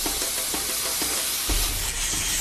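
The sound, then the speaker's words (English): A gas cutting torch roars with a loud, steady hiss as it slices through metal barrels, with faint crackles ticking along and a deeper rumble joining halfway through; no one speaks. “The sharpest tool in the box is the gas axe and it makes easy work of the barrels, so the cats aren't foiled yet.”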